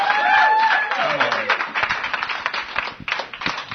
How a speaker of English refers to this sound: That sounds like a weak clap. Can we do a little bit something more?